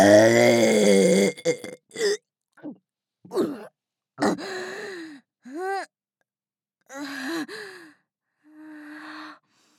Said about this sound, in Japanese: でっかいザーメンゲップしないと胃の容量確保できないでありますね。